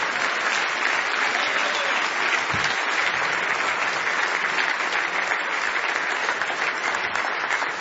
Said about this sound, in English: Give the Lord a big hand clap.